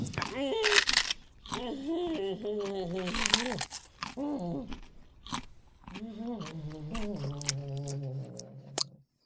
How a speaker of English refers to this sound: And now, me softly chewing a wasabi Kit Kat.